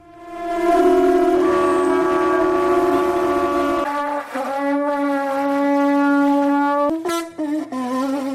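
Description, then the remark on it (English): A conch shell blown in long, loud, steady horn-like blasts, a low sustained tone with a rich stack of overtones, wavering slightly in pitch before dropping and breaking into shorter honks. “But if you fancy something a little more unusual, you might be interested in the conch shell.”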